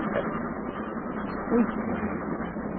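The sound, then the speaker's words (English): A steady, continuous rumble of a moving passenger train fills the whole stretch, dull and muffled, with a brief bump partway through and no voices on top. “And he has to be an acrobat to use both hands to save with and still try to keep his balance on the train.”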